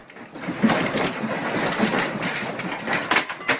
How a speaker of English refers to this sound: Earthquakes are cacophonous, frightening affairs. Survivors of the 9.0 Tohoku quake in Japan might never forget the earth-shattering noise unleashed this spring.